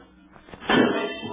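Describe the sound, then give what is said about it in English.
The back door of a house makes a single sudden noise after a quiet moment, a muffled thump that lingers briefly with a dull rumbling tail, moderately loud. “Back door.”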